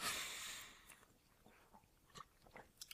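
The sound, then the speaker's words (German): Crunching of chocolate-coated biscuit sticks: a burst of crisp bites followed by irregular, quieter chewing crunches, with no one speaking. “Also, schon gegen alles verstoßen, gegen was man so aus den Podcast-Grundsätzen hört. Nicht schmatzen, nicht trinken, nicht rülpsen.”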